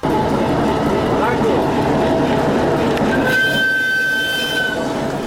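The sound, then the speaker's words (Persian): A freight train carrying commercial goods from China rolls along the rails, arriving in Hairatan, Afghanistan, with a loud, steady rumble of wheels and cars and a thin, high metallic squeal rising briefly near the end. “برای اولین بار یک قطار اموال تجارتی از چین به حیرتان رسید.”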